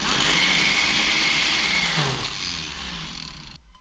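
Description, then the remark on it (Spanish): A kitchen blender whirs loudly and steadily, its dense grinding roar shifting slightly in pitch partway through before cutting off abruptly near the end. “Una licuadora. ¡Esa! Una licuadora.”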